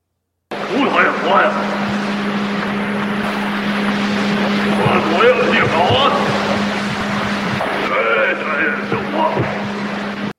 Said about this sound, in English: That's a samurai chatter. That's Samurai Chatter. That's Bigfoot. Ron Moorhead. Yep, more Ron Moorhead. Is that Sierra Sounds still? Yeah, that was Sierra Sounds.